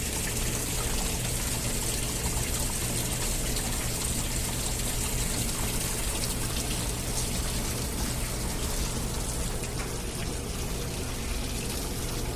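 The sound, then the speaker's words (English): Liquid from a dish holding laundry detergent pours steadily for about twelve seconds, a continuous splashing gush with a faint low hum underneath and no voices, as a load of white laundry is washed in warm water. “Have to pour this dish, laundry detergent is in this.”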